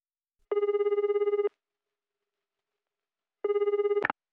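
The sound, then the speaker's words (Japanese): A telephone rings twice, each ring a rapid warbling trill lasting about a second, separated by a long silent gap; the second ring cuts off abruptly with a click as the receiver is picked up. A woman is calling about a part-time job. “女の人がアルバイトのことで電話をかけています。”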